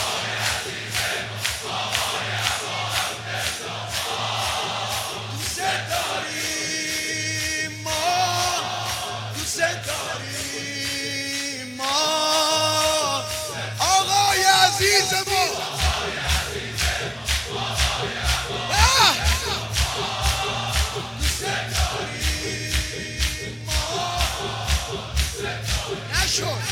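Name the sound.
loud shouting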